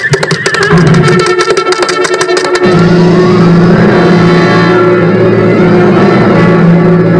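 A horse neighs loudly and close by, a long, drawn-out whinny with rough, rattling onset, sustained over a steady low rumble for several seconds. No one speaks.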